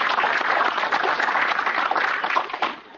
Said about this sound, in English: And I think that's worth a round of applause, please, for everybody.